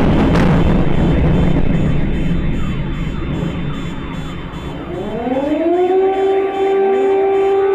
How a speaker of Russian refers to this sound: И вот это вот еще один такой типичный звук. Это происходит так. Сильнейший взрыв, включается сирена оповещения. Вот это значит, вы точно в Харькове.